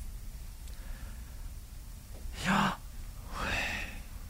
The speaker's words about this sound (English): Yet by the same token, those same Hebrew scholars, Jewish scholars, believe that the sound of God's name is the sound that you make when you're breathing. And it works in and out. Try it with me, okay?